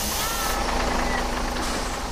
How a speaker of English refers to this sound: Oh, the bus. Must be a new one.